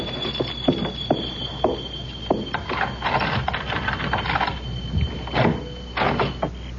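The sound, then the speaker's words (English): Keys rattle and scrape in a door lock, with a run of sharp metallic clicks and clunks at an uneven pace, followed by the bolt giving way. No one speaks. “Oh, locked. Keys.”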